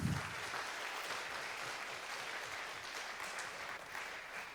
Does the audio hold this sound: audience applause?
yes